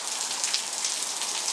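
Heavy, torrential rain pours down in a steady, dense hiss, heard from under cover on a balcony, with countless drops pattering on a hard surface and no voices present.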